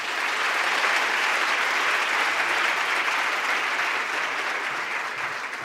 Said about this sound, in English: And applause.